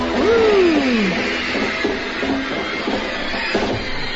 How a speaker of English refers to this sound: Elvis is rocking the islands over there, and those loud screams are just helping to rock those islands, aren't they?